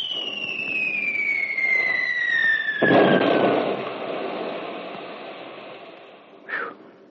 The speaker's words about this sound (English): What's that? Artillery. It's not ours. Look, a bracketing barrage and coming right toward us.